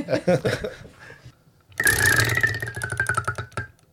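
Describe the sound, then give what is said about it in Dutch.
A prize wheel is spun, giving a fast run of sharp clicking ticks that gradually slow and space out as it winds down, following a brief bit of talking at the start. “Nou ja, aan jou is de taak om aan het rad te draaien.”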